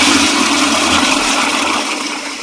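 A toilet flushes with a loud, steady rush of water that fills the whole moment, then eases slightly toward the end. No voices are heard.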